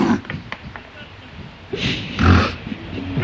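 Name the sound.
sneeze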